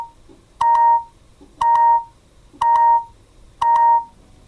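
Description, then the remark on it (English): A voice-controlled device beeps four times in a steady rhythm as it powers off after a spoken command, each short electronic tone about a second apart, clear with no voices around it. “Press the talk button during the beeps to cancel.”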